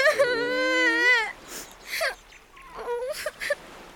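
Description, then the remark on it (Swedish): A child cries, starting with a loud, wavering wail that breaks off into shorter, choked sobs and gasping breaths. “Gråt inte”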